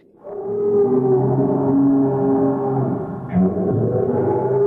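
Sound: lion roaring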